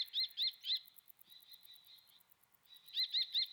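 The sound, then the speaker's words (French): A common kestrel, a small falcon, calls from overhead: a quick run of three sharp, high-pitched notes, a thinner sustained cry, then another fast triplet. Clear, with no voices. “Et là, on entend un cri là, qui vient des hauteurs. C'est un rapace ? Oui, là, il y a un faucon cresserelle.”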